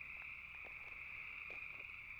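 A dense, continuous chorus of frogs trilling loudly at a steady high pitch, with a few lower croaks breaking through, filling the air without pause and no voices.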